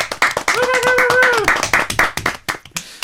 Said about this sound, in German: Aber dann noch großen Applaus für alle bitte hier im Studio.